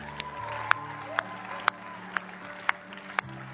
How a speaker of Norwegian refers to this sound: Gi en klapp til de som har tatt imot Jesus.